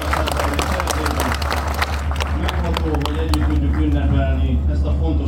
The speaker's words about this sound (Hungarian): Nagy tapsot kérek az zarándokoknak, köszönjük, hogy eljöttek.